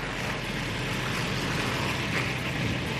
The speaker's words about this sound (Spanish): Así suena el fuego sin control que afecta a uno de los barrios más lujosos de la ciudad, el barrio de Pacific Palisades, una zona montañosa ubicada al oeste.